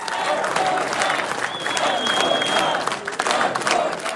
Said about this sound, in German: Vote for Doug, ruft das Publikum im Konferenzzentrum von Peckville